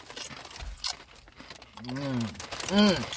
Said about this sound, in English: Burritos. You have to be able to hear the chewing in the recording. Oh, yeah. You have to. It's very audible.